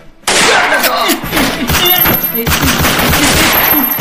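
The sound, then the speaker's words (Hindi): Loud, sustained gunfire bursts in after a brief quiet start during a robbery by dacoits, rapid overlapping shots rattling continuously like an automatic weapon volley, with a few faint voices and high ringing tones mixed in. “रुका भैया, गोली झन चलाओ भैया”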